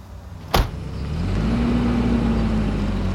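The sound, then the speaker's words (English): A sharp thud like a car door shutting, then a car engine starts up and rises in pitch as the vehicle pulls off, its steady rumble staying fairly loud. “Don't you dare drive away in that fucking car.”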